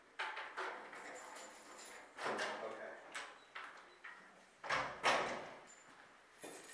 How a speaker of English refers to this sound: Actually, hang on. Let me unlock this door so that we can close it.